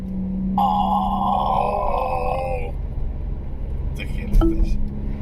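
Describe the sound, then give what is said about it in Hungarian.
A car engine growls steadily in sport mode, a deep throaty rumble with a richer burbling layer for a couple of seconds, then a short revving flare near the end. “Ez a jó kis öblös, morgó hang, szerintem zseniális, imádom. Nagyon szépen duruzsol a motorja”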